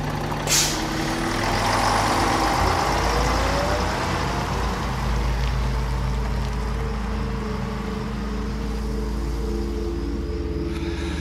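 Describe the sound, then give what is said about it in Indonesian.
A sharp hiss of air brakes, then a bus engine's deep, steady rumble as it pulls away after a passenger gets off on a dark, quiet road just before dawn, easing slightly over the seconds. No one speaks. “Setelah aku turun, bis pun pergi.”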